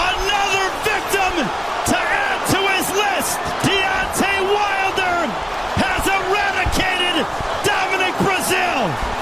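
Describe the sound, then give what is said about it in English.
Repeated heavy thuds of punches land in quick, uneven bursts, each a sharp smack, while voices shout and yell loudly over a constant crowd roar; a boxing match in which Deontay Wilder knocks down Dominic Breazeale with a right hand in the first round. “But that right thud you could hear through the speakers, my goodness.”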